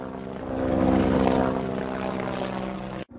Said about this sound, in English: I am a helicopter. I fly in the sky. People can travel to far-off places using me.